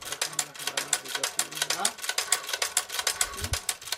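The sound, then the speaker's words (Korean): A 150-year-old hand-cranked sewing machine, obtained in the United States, clatters steadily, its rapid, even clicks repeating several times a second, with a faint low voice briefly underneath. “이란에서 가져온 100년이 된 가위와 미국에서 어렵게 구한 150년이나 된 수동 재봉틀인데요.”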